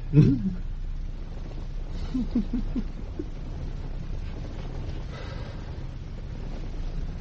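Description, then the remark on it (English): Steady, even hiss of falling rain runs throughout. A short voiced sound rises over it near the start, and a few quick tonal murmurs follow a couple of seconds later. “Hey, just listen to that rain.”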